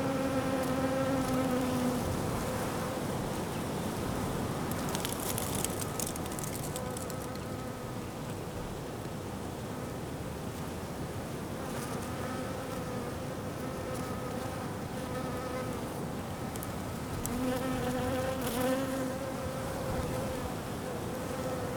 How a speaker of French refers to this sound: Du vent. Des fleurs. Des abeilles.